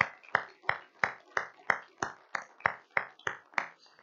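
Steady, evenly spaced hand claps, about a dozen at a brisk rhythm, each ringing briefly, as the audience at First Bible Baptist in Lancaster, New York, claps together in time for a guest missionary speaker from Bearing Precious Seeds and his family.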